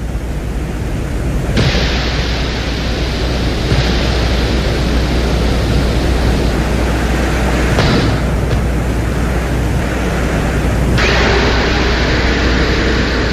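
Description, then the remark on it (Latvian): A drill on a Venus lander runs continuously on the surface of Venus, drilling a ground sample, recorded by the lander's microphone: a loud, dense, hissing roar with a low rumble underneath. Its tone shifts abruptly a few times, and no voices are heard. “Un tajā skaitā bija arī mikrofons, kas reģistrēja to brīdi, kā tiek nomests fotokameras vāciņš, urbis strādā un kaut ko izurbj.”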